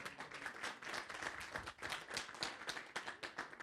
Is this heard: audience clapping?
yes